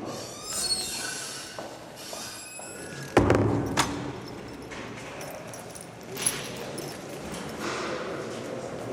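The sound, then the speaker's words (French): Heavy metal prison doors and gates clank and bang as they are opened, eight doors and four gates on the way to an office, with one sharp slam standing out amid grinding, squealing hinges and a steady rumble of background noise. “Tous les matins, le même rituel, se faire ouvrir 8 portes et 4 grilles pour atteindre son bureau.”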